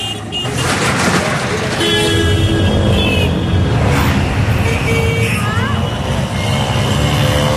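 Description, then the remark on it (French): Busy street traffic roars in Bhavnagar, India, in a market district selling parts salvaged from ships, at the calmest hour of the day: a dense blend of motor engines, auto-rickshaw engines and crowd hubbub, with several short car horns honking in bursts throughout. “Ça, c'est leur calme, hein, les sons qu'on entend, là, les klaxons, les tchouk-tchouk, les moteurs, tout le bazar.”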